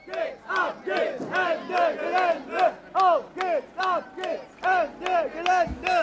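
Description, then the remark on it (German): Anti-coal protesters forming a march back to the plenum on a Friday, at protest actions in the Rhineland lignite mining area, chant in unison, many voices repeating a short rhythmic slogan in regular loud bursts with brief pauses between them. “In dem Moment am Freitag hieß es, alle zurück zum Plenum, und dann formierte sich ein Zug, das klang ungefähr so.”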